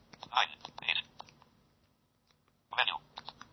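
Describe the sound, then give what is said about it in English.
Two short bursts of tinny, whispery synthesized speech from a 6600 mobile phone in training mode as its keys are pressed, mixed with light button clicks, separated by a brief quiet gap; fairly soft. “If you compare it with the 6600, just let me get the 6600 and put the training mode on.”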